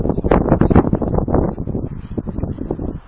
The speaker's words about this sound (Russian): Да нет, просто ветер сильный. И очень сильный.